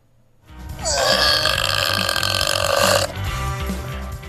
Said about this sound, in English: If that emerged from either the place of farts or the place of queefs, you'd have a major problem on your hands. Because that is a burp.